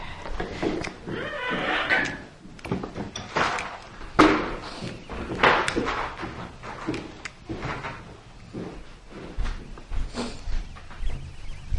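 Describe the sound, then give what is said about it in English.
Doors being closed, a run of heavy slams and thuds landing one after another at an uneven pace, loud, with scraping and clatter in between. “close the doors.”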